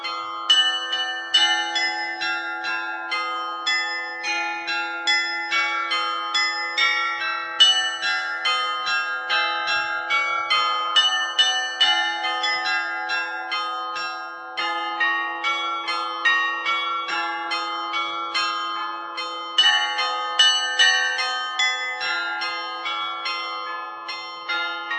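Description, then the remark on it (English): The Prague carillon, 27 bells cast in Amsterdam in the octagonal tower of the Loreto Church in Hradčany next to Prague Castle, rings out a continuous melody, many bright metallic notes struck in quick succession over a steady sustained hum, with lingering overtones and no voices. “But let's come back to Hradčany next to Prague Castle, where thousands of tourists gather to listen to a special musical instrument, the Prague carillon.”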